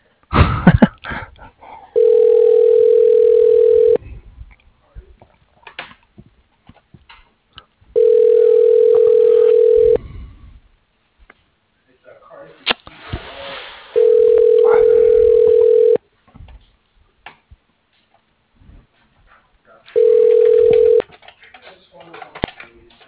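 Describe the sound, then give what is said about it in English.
An outgoing telephone call from a Bank of Cardiff employee calling a client back, ringing: four steady mid-pitched ring tones, each about two seconds long, separated by quieter pauses with faint rustling and a small cough. “called you six times”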